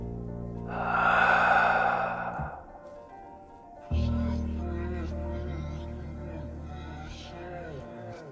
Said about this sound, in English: Well, it's his breathing slows, like you say, and then you hear one last long exhale.